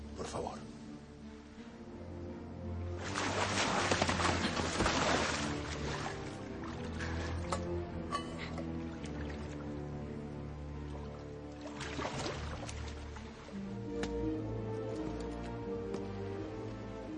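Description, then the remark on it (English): Water from a fountain is poured into chalices in two short splashing bursts, the first longer and louder, over a steady bed of music. “Only God can grant eternal life, not this pagan water.”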